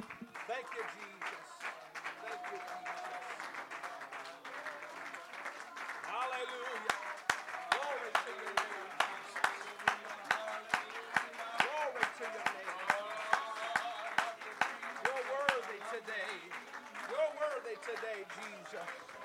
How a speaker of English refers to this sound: Hallelujah. Why don't you clap your hands to the Lord and give him praise?